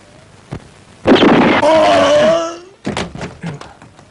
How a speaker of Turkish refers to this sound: Üçe kadar saydım, sonra ateş ettim. Nasıl? İşte böyle.